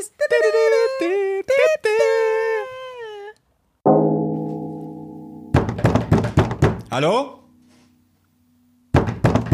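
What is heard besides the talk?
knocking on a door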